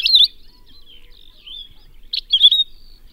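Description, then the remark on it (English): Clear calls of a palila, a large, endangered finch, on the north face of Mauna Kea on Hawaii's Big Island: bright, high chirps and short warbled phrases in two bursts, one at the start and another near the end, with quieter twittering between, alone with no talking. “work is underway to save one of the island's most endangered birds, the palila. The palila is a large finch with a bold yellow head and breast.”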